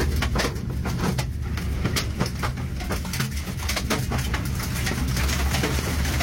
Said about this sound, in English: I can't believe they're like right by the glass of that fucking train.